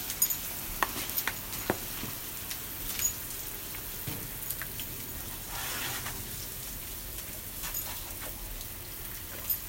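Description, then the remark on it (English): A garden hose sprays water onto grass in a steady hiss, with scattered patters and small splashes breaking through the even wash of sound. No one speaks. “Oh, water the grass a bit. The grass needs it.”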